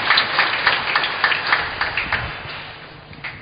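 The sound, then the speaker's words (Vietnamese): An audience applauds to thank the parish communications team for a spiritual bouquet, a dense patter of many hands clapping together at a steady, even level, easing off slightly toward the end with no voices over it. “Xin cộng đoàn cho chàng vỗ tay để nói lên lời cảm ơn bó hoa này.”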